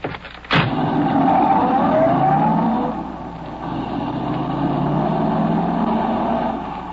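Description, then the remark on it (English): A car engine revs up loudly and pulls away, its pitch rising steadily as it accelerates, then settles into a sustained drone that continues to the end. No one speaks. “Is that the car there?”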